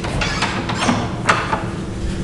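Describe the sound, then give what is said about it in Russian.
An apartment door is unlocked with keys and opened: several sharp metallic clicks and rattles, then a clunk as it swings, all against a faint steady background hum. “Ключи у тебя есть? Так открывай.”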